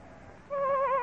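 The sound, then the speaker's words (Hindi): A single soft bleat from a lost sheep caught in thorny bushes in a forest on a dark night, with wind and light rain; the quavering, wavering bleat starts halfway through and holds to the end, heard alone over faint background noise. “तब गडरिये ने पहचाना कि ये उसी की भेड़ की आवाज है।”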